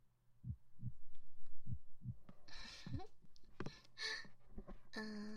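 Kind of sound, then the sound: human body sound, slow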